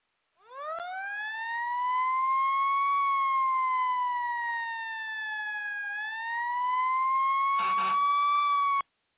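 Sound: fire truck siren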